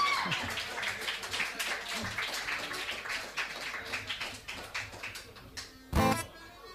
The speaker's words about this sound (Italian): vogliamo fargli anche due applausi. Grazie.